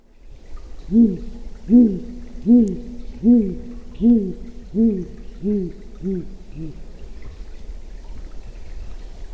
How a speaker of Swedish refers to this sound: om du skulle kunna dra på den i studion så vi kan höra hur lappugglan låter